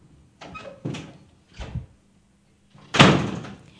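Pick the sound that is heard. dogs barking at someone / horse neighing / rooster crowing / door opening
door opening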